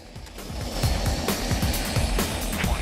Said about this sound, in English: The rotor of a Coast Guard helicopter whirs into action.